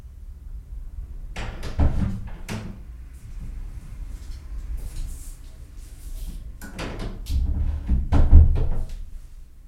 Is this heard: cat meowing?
no